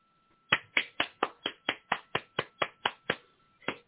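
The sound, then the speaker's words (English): Applause from a single pair of hands after a poem is recited: about a dozen crisp, sharp claps in a quick, steady rhythm, then a brief pause before one last clap. No voices are heard. “I'm applauding you for everybody.”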